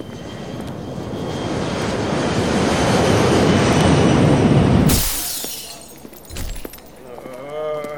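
A loud airplane engine roar swells steadily for about five seconds, then cuts off abruptly, leaving quieter scattered clatter and a few brief tonal sounds.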